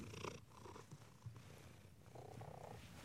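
cat purring

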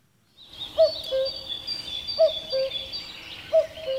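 common cuckoo calling

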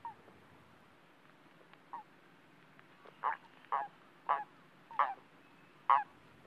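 toads calling

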